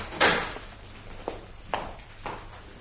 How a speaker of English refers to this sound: Somebody's closing the door! Blast! They've locked it.